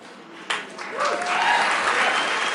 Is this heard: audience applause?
yes